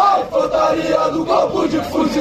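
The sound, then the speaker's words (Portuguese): A group of Brazilian Navy troops shouts a battle cry together, loud, sustained voices in rising and falling chanted bursts with no pauses across the whole two seconds. “O grito de guerra incentiva as tropas para frente.”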